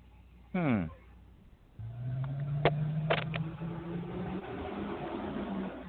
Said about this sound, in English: Got big trucks going by. Sorry, folks, if you're hearing any of that.